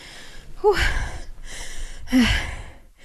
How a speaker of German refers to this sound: Jetzt hört ihr mich atmen.